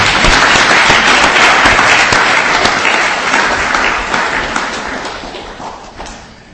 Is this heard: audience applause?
yes